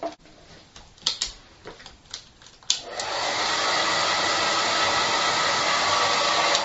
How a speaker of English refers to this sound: I brought my hairdryer along, well, not my hairdryer, my wife's hairdryer, to remind us that there was a rushing wind, a wind that came through that whole of the upper room.